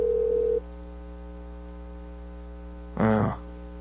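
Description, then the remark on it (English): An outgoing phone call to a sports talk show rings out with no answer: a brief steady ringback tone over a constant electrical hum, a long humming pause, then a short harsher burst of tone. “We'll see if they pick up our phone call right now.”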